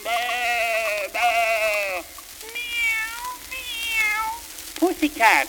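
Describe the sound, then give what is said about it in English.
A cat meows several times in a row, drawn-out and fairly loud, with a few higher wavering cries following before a short burst at the end. “Pussycat, where have you been? Meow.”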